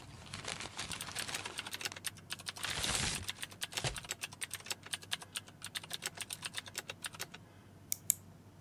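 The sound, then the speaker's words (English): Rapid, irregular clicking of keys on a computer keyboard, steady for several seconds, with a brief burst of louder rustling partway through and no voices. “Keep typing.”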